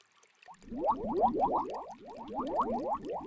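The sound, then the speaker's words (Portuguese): Soap bubbles being blown out, heard as a quick, steady stream of bubbly, upward-sliding blips that carry on for a few seconds, close and fairly loud, with no talking. “Eu cuspo bolhas de sabão.”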